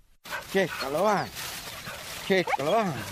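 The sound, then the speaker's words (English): Truffle-hunting dogs whine and yip in a few rising-and-falling whimpers and short barks in quick bursts over a steady outdoor background hiss. They are searching for white truffles in the woods around San Miniato in Tuscany, Italy. “his dogs are searching for white truffles in the woods around San Miniato in Tuscany.”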